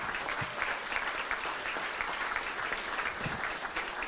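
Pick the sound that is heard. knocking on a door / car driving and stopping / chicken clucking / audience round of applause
audience round of applause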